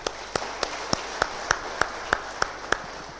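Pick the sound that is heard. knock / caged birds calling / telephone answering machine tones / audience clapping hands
audience clapping hands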